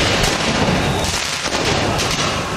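Firecrackers and fireworks bang out in sharp, irregular bursts over a dense, roaring wall of street noise, the explosions loud, with several cracks scattered across a few seconds, as football fans in the streets of Paris celebrate Paris Saint-Germain winning the men's Champions League.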